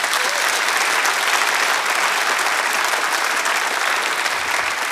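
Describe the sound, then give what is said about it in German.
A church audience claps for God steadily and loudly for several seconds, a dense, continuous patter of many hands with no talking over it. “Gib mal Gott einen Applaus, der ist wirklich ein guter Vater.”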